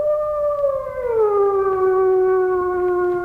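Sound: wolves howling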